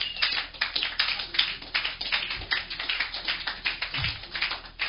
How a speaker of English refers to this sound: Sorry. Please, thank you for clapping.